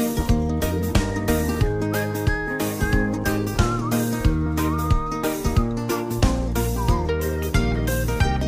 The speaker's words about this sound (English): You were whistling along, weren't you? Everybody, it's happy to whistle. Just did. You can't help but smile when you whistle.